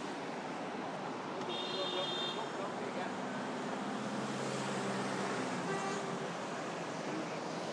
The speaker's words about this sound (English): Probably get an idea of how much traffic is going round in front of us here. It's not quite the Arc de Triomphe, but... I still feel quite vulnerable standing here.